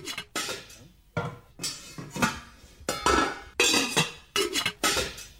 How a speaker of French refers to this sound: Oui, c'est des bruits de cuisine ou de casserole, de poêle.